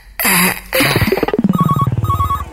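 telephone ringing

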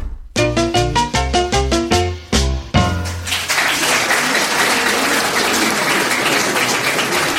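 round of applause

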